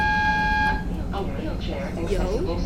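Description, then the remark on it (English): A loud train horn blares in a short, steady blast that cuts off abruptly, followed by noisy, indistinct voices. “The train about to crash.”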